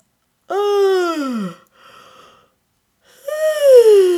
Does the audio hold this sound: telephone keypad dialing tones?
no